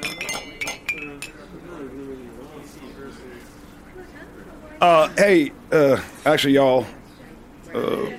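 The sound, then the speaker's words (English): Glasses of champagne and other drinks clink together in a toast, a few sharp bright taps with a short ringing tone near the start, followed by murmuring voices and some louder vocal bursts. “I'm looking forward to doing this for a really long time. Cheers.”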